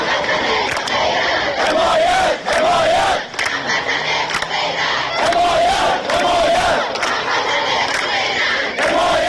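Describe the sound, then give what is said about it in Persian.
A large protest crowd of residents of Ahvaz and other cities of Khuzestan province, gathered in front of the provincial governor's office building over water and power cuts, chants slogans in unison, loud and sustained, with rhythmic shouted phrases rising and falling in repeated waves and brief dips between chants. “در پی قطع آب و برق در برخی نقاط استان خوزستان، هفته گذشته دست کم برای 4 بار گروهی از شهروندان اهواز و دیگر شهرهای استان خوزستان در مقابل ساختمان استانداری تجمع کردند. مردم این شهرها در شعارهای خود خواستار حمایت مردم سایر شهرها بودند.”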